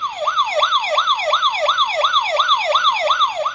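A rapid electronic siren sound effect yelps up and down in quick repeating sweeps, loud, with no voices over it.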